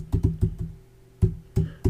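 Keys clatter on a computer keyboard as someone types to look something up: a quick run of five sharp clicks, a pause, then three slower, separated keystrokes over a low steady hum, with no talking.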